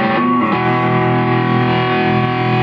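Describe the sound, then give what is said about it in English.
A heavily distorted electric guitar played through a Boogie amp setup, with a pedal driving the gain, loud and saturated with a screeching edge; a short attack, then a sustained chord ringing out steadily with no talking. “The next one up is a Boogie with a Boogie amp setup. You can hear the screeching already.”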